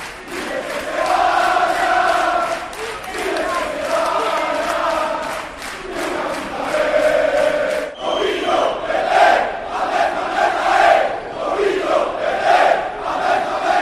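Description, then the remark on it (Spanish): A large crowd of Celta football fans protesting outside in Vigo, Spain, chants loudly in unison, rhythmic shouted phrases repeating with sustained vocal harmonics, then breaking into more ragged, overlapping yelling in the second half. “Es lo que se gritaba hoy, ¿eh?, en Vigo.”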